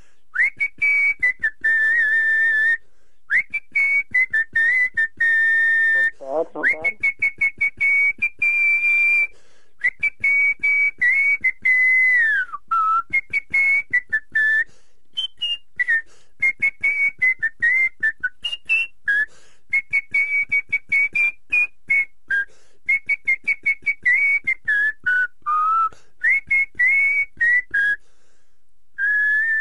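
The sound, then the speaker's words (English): A person whistles a melodic tune for about thirty seconds, clear, with shifting pitches, held notes and short breaks between phrases, and no talking over it. “That is good whistling.”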